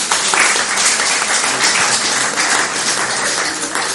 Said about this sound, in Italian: Io chiederei anche una, io ci metto la faccia, ma dietro di me c'è tutto un personale della fondazione che lavora affinché questi incontri riescano, quindi chiederei un applauso finale del percorso anche per loro.